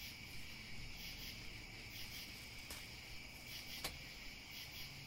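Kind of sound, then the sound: insect, cricket chirping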